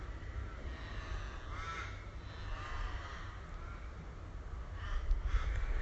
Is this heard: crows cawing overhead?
yes